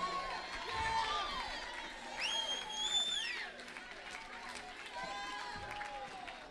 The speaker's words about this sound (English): A su vecino y dígale, voy a hacer el zapateado. Turn to your neighbor and say, I'm going to do that dance. Aleluya, come on, stomp on the devil's head.